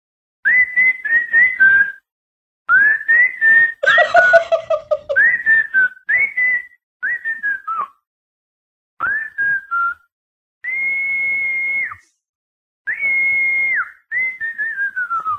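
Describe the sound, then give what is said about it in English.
A caller from Ashburn, Virginia whistles for a dog: a series of loud, rising and falling calls in short bursts with brief pauses; one burst has a rougher, breathier tone. “About to whistle for my dog.”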